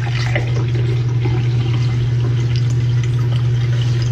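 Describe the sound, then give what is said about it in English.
Hot water pours steadily into a glass, a continuous splashing and trickling rush that stays fairly loud and even for several seconds, with a low hum beneath and no one speaking. “This is hot water.”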